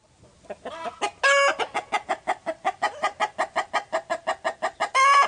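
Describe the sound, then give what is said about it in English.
Chickens cluck in a fast, steady string of sharp, mid-pitched pulses, broken at the start and end by louder, drawn-out calls like a rooster's crow, on a farm in Monroe County, Ohio. No one speaks. “She lives there with her parents, Ruth and Mike, a few horses, chickens, goats, cats, and dogs.”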